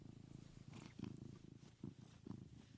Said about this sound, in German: Übrigens, wenn das hier so im Hintergrund so ein bisschen brummt, das ist mein Kater, warte mal, ich versuche mal, das Schnurren richtig aufzunehmen.